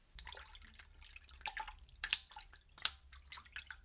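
Someone wades slowly through water: soft, irregular splashes and drips at an uneven pace, fairly quiet and close, over a low steady rumble with no talking.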